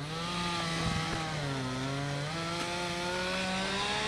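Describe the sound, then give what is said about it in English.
A chainsaw runs steadily and loudly, its engine pitch rising and dipping slightly as it bites into wood. A crew is cutting up tree limbs while clearing debris from the cluttered lots of a neighborhood. No one is speaking. “A crew of men used chainsaws and four-wheelers to cut up limbs and carry off the remnants of trees strewn about cluttered lots.”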